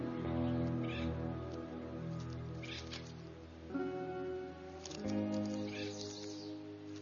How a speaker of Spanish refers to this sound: Esta solo es una falsa alarma. Un cuervo, el bromista del cañón.